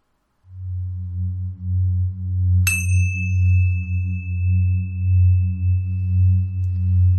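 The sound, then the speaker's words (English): A single meditation bell is struck once to begin a meditation, its clear metallic tone ringing out and sustaining over a steady low drone that hums throughout. “When you're ready, begin the tape again, and the meditation will begin with a bell.”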